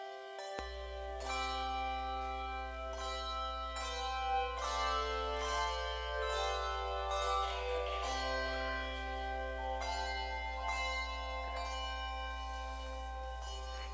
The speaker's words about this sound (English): harder to hear with the bells.